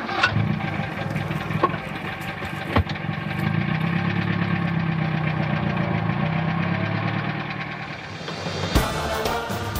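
The engine of Rosenberg's car rumbles steadily at idle, a low continuous drone with a few sharp clicks and knocks, ending with a brief louder burst near the end. No one speaks.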